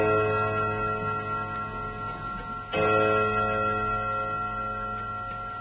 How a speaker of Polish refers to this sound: Północ bije na zegarze w izbie.